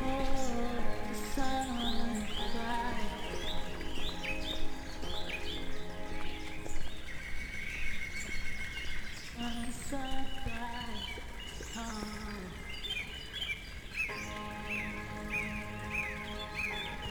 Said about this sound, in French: Ça gazouille de partout.